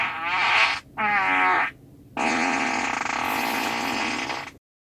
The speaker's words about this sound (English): Your $90,000 sedan will now fart on command. Here's a quick sample of some of the available sound effects